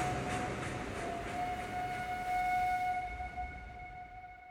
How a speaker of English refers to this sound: Still smiling, Dillinger flashes a wink as the whistle of the train echoes in the surrounding expansive farmland as they drive away.